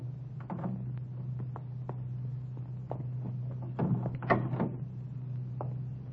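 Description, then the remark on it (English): A car door is eased shut with a soft, muffled clunk and a few small clicks, set against a steady low hum like an idling engine, after the car has stopped around the corner from a filling station. No one speaks. “We stopped around the corner from the filling station. Easy on the door when you get out.”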